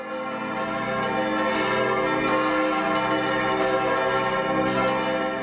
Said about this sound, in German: Wir sind den Kirchenglocken der Matthäuskirche in Kleinbasel gefolgt und sitzen im Miteinand-Gottesdienst, zu dem das Geläut jeden Sonntagabend einlädt.